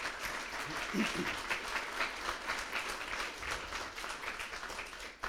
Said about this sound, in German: Großen Applaus bitte mal. Danke.